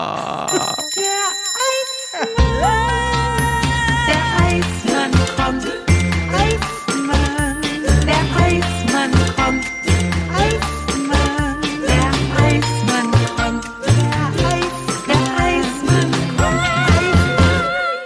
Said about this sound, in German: Und vor allen Dingen war es erst das erste Klingeln hinten bei den anderen Häusern gegenüber am Pudding sozusagen. Der kommt gleich nochmal lauter.